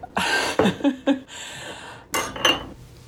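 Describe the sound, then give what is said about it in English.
Tea and water dripping and splashing as tea is made, with bright clinks of a cup and spoon. Two short bursts of liquid noise with ringing taps in between, and no talking. “Just so you don't think dripping sounds are other things, it is tea and water.”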